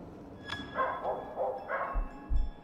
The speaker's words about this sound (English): Gee, it sounds like someone unleashed their dog. I feel like it's getting closer. Am I crazy? Or is that dog way too big to be a dog?